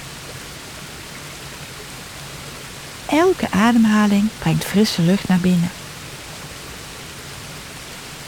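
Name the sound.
waterfall rushing water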